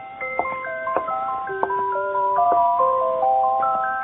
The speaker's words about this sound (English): What you heard, the music box, sitting on the counter next to the open door, playing.